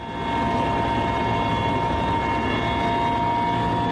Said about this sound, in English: We're about to arrive by helicopter at one of the sites that's key to getting more food to those in need in Sudan. We're landing in Adre, in neighbouring Chad.